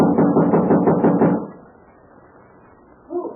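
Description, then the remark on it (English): A rapid series of about six or seven loud, hollow knocks on a door, followed by a lull of quiet background and a short muffled thud at the end. “You knock and say you have a message for April King.”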